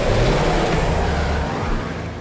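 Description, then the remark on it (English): A car engine roars loudly, its low growl rising as the vehicle accelerates hard, with a steady wash of road noise throughout and no voices; a driver taking off in panic after officers' vehicles tried to block his car in. “I panicked, and I just took off.”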